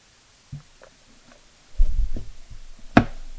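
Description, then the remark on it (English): Someone sips water: soft, low swallowing thumps and a brief rustle, followed by a single sharp click near the end. No one speaks. “And once again, I'm going to sip some water and then go back to the book, The Seven Steps to Awakening.”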